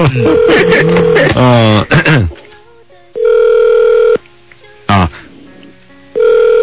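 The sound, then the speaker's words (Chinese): People talk briefly, then a phone ringback tone sounds while a call to a friend's mobile phone waits to be answered, with steady one-second rings separated by long pauses and a short voice between them. “没有，他可能看到陌生的号码就不会接。这是他手机是不是？”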